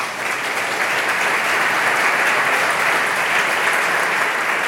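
A live audience at the Europaforum at re:publica applauds steadily, a dense wash of clapping hands that stays loud and even for the full few seconds, with no voices cutting through.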